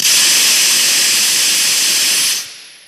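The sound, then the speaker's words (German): A loud, steady high-pitched hiss of high-pressure hydrogen rushing out of a pressure vessel for over two seconds, then cutting off abruptly into a faint fading tail, with no voices; a release test in a hall on the BAM test site. “Also Sie entlassen sozusagen Wasserstoff und testen, wie sich der Wasserstoff hier verhält, wenn man ihn rauslässt aus dem Druckbehälter?”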